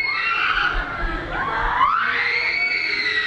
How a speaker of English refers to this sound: For the uninitiated, the screams echoing from this small white building in Cotabato sound disturbing.